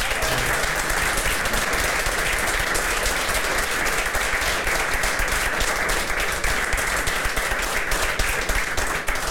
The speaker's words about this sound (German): Applaus